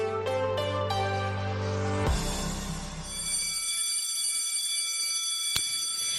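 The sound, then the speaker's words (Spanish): A school bell rings loudly at the start of a new school year with a bright, metallic tone, starting in quick struck bursts, swelling into a harsh continuous clang, then cutting off and leaving a fading ring and a brief click. “El timbre ha vuelto a sonar hoy y con él también la emoción, los nervios y los retos de un nuevo curso.”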